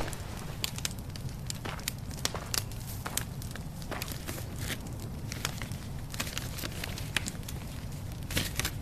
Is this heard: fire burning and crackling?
yes